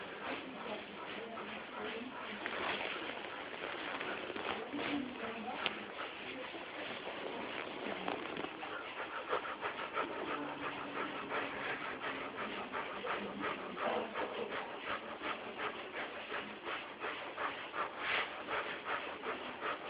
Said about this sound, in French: vous pratiquez la respiration du feu. Allez-y.